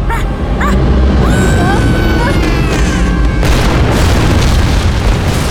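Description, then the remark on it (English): A giant Megabot robot crashes through a floor down to the floor below, opening a crater: a loud, sustained rumbling crash with whining, screeching metallic tones, then a heavier burst of crumbling debris partway through. “The Megabot crashes to the floor and keeps on going, opening up a crater around it down to the next floor below.”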